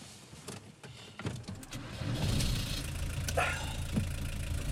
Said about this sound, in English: Jamie drives away.